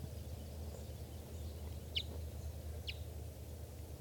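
bird, bird chittering

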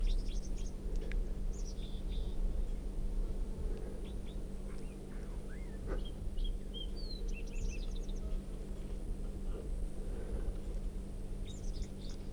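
bird, red crossbill song

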